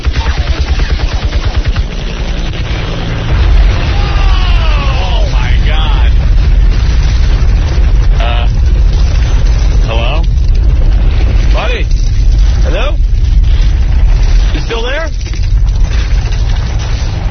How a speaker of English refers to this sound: Is that an Apache helicopter? I believe it was,